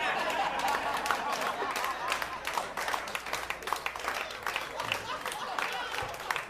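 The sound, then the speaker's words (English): Steady applause from a large audience fills the whole stretch, dense overlapping claps at an even level, with some crowd murmur mixed in before it starts to thin toward the end. “So, for the non-South Asians in the audience, who perhaps didn't understand why there was applause, the British built a really extensive railway system throughout India before they left,”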